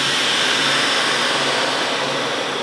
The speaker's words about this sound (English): Double bags the bone. One bone per bag. And sends it through a vacuum sealer.